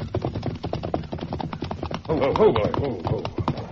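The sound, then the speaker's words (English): Horse hooves trot in a quick, steady clip-clop rhythm, fairly loud, as riders leave a trail to hide in an arroyo. A voice calls out over the hoofbeats partway through. “Now, we'll just sit on our horses here and watch that trail with our guns ready.”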